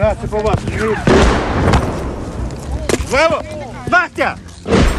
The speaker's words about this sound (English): And more shells landed outside. So at that point, we were really coming under semi-serious shelling and we decided to just stay put until we were completely sure that the attack was over.